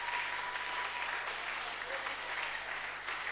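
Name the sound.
audience clapping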